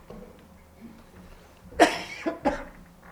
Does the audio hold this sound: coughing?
yes